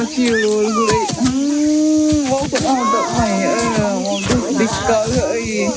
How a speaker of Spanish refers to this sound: Esto que escuchas es la selva amazónica brasileña. Entre la multitud de aves que se escuchan y entre los árboles frondosos viven los miembros de la tribu Yanomami.